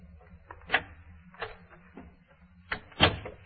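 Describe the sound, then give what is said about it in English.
A door is opened and shut: a handful of sharp wooden clunks and latch clicks, with a heavier pair near the end over a low, steady background hum. “You have a way of coming in without being announced.”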